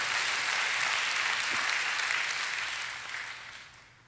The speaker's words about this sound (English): Can we just give the Lord a hand clap of praise? Thank you, Lord. Thank you, Lord.